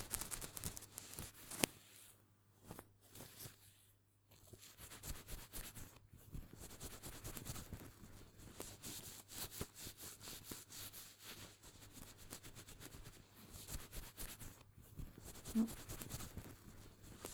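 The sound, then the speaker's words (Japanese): Soft rubbing and rustling of a towel working somewhat firmly over damp hair to towel-dry it, continuing in uneven bursts with a few brief pauses, quiet and intimate with no talking. “ちゃんとこうやってタオルドライして、その後ドライヤーでしっかり乾かさないとダメだよ。”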